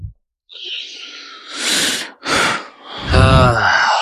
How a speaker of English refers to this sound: Audible breathing.